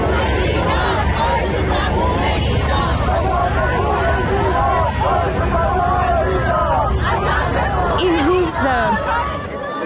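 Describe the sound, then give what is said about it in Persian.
A large crowd of thousands of Iranians from various US states and Canada, joined by non-Iranians, gathered in the United States, shouts and chants the name Mahsa Amini together in support of nationwide protests in Iran, many voices merging into a loud, continuous roar with rising and falling vocal calls layered over constant babble. “جایی که جمعیت بزرگی از هزاران ایرانی از ایالت‌های مختلف آمریکا و همینطور از کانادا به اینجا آمدن، دور هم جمع شدن، حتی غیر ایرانی‌ها به اونها پیوستند و همه با هم نام مهسا امینی رو در حمایت از اعتراضات سراسری ایران فریاد می‌زنند و تکرار می‌کنند.”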